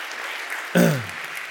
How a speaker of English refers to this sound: Thanks. Let's clap it up for Aaron. I mean, incredible story.